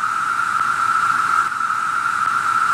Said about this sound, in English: Here's what a cicada sounds like.